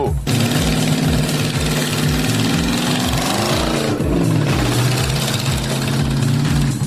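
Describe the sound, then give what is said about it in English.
A wide-tired 'monster mule' racing utility vehicle's engine roars loudly and continuously with a throbbing low pulse as it takes tight corners on lap two of a timed run, its pitch sagging briefly midway as it shifts, then climbing again under hard acceleration. “The wide-tired monster mule can ride those tight corners like it's on rails.”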